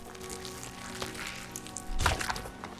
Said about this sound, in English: The sheriff pulls the arrow out.